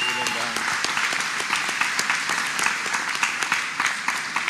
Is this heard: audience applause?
yes